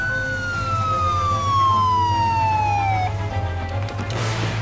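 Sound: police car siren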